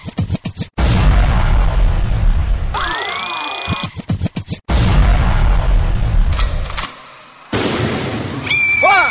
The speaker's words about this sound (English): Energy Explosion